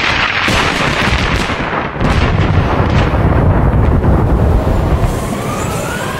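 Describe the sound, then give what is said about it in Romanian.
Heavy rain pours down in a dense, steady roar after the sky suddenly darkens following a spell of great heat, with loud rumbling bursts of thunder cracking through it. No voices, just the continuous downpour and storm. “Ce brusc s-a întunecat cerul. Nu-i de mirare după o arșiță așa de mare. Mamă, strașnică ploaie.”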